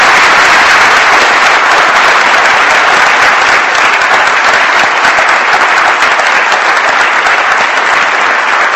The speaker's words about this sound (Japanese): 皆様、ルフィン・ゾマホン特命全権大使閣の祝賀ご盛大な拍手をお願いします。